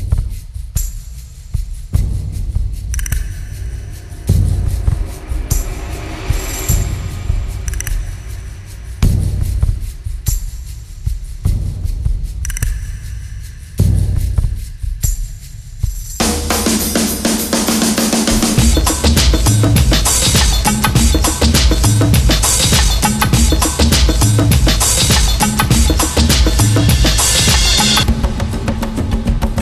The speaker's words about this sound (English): Then there are 3 drum tracks, which are just loops with an occasional snare or cymbal added.